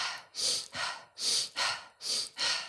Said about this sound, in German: Und dadurch, dass es eine sehr dynamische Atempraxis ist, macht es halt einfach auch Sinn, das auf einem Beat aufzuhängen sozusagen. Also es ist echt recht schnell. Wir atmen vielleicht mal 2-3 Atemzüge vor. Das ist wirklich so.